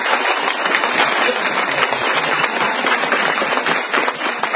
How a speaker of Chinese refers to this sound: 但是你们的掌声跟昨天声音不一样。